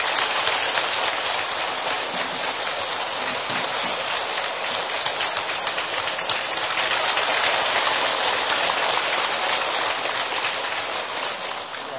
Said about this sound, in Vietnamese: Xin chào tràng pháo tay thật lớn.